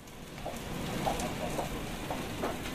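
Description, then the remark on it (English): A sausage sizzles steadily, a dense crackling hiss with scattered small pops and spits, holding an even, moderate loudness throughout with no voices. “The familiar sound of a sizzling sausage.”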